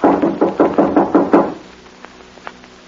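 Seven firm, evenly spaced knocks on a door in quick succession, followed by near silence with only a couple of faint clicks.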